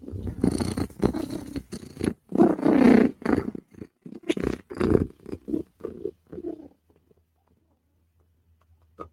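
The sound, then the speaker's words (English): A big female cat purrs loudly, a throaty rhythmic rumble pulsing in steady bursts for several seconds before trailing off into near silence. “Listen, because if cat is purring, cat is a happy, happy girl.”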